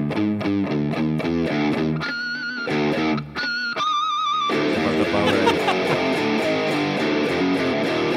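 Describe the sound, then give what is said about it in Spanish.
A loud, distorted electric guitar riff chugs through stepwise half-step note changes, broken by short pauses and squealing high tones, before a full band crashes in dense and heavy. “Sí, pero bueno, la guitarra, a mí lo que me gusta es de ese riff es los cromatismos. Medios tonos.”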